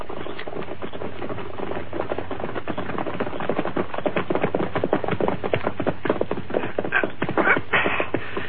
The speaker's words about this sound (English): There's a horse coming, Sheriff. Masked man, you're right. Sure is. Quiet, everyone. When I give the word, we'll jump him. But not before. Sounds like he's stopping down with the cottonwood.